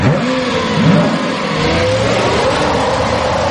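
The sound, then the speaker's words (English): A car engine revs hard and steadily while trying to turn around, its pitch rising and straining with gritty rumbling beneath, as the car is stuck in the sand with its wheels spinning without grip. Loud, no voices. “Are we stuck in the sand?”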